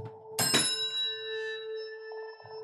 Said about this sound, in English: Should we make a Chinese chord with our bells? Is that, okay, here we go.